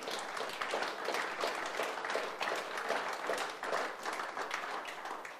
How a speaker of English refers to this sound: Can you guys give God a hand clap of praise this morning?